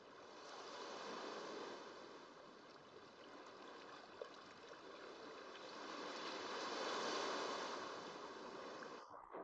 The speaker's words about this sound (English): The waves caress your stomach and chest.